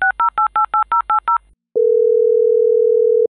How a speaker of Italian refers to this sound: Compongo il suo numero.